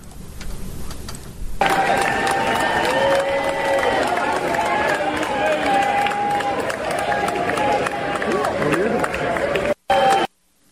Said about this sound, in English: Yep, cheering, waving their little Ukraine flags. Waving their little Ukraine flags. So happy. So happy.